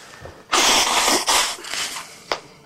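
sneeze

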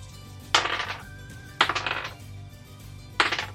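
dice being rolled

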